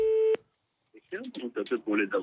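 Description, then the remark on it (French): A steady telephone busy tone sounds briefly and loudly, cutting off abruptly, then after a short silence a person begins speaking. “Donc déjà, il y a un téléphone, il faut le dire, mais qui visiblement est décoratif.”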